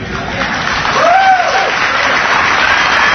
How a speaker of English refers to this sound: Don't applaud. I know what you're applauding for, but listen